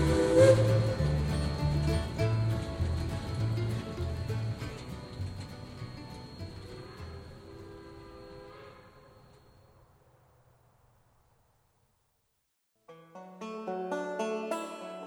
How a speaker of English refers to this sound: Hear that lonesome freight train whistle call.